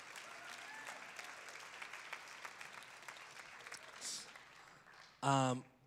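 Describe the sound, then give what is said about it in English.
A crowd applauds steadily for several seconds as three men come up to the stage, a dense wash of overlapping claps, then the clapping fades as a voice starts speaking loudly right at the end. “Can we just clap it up”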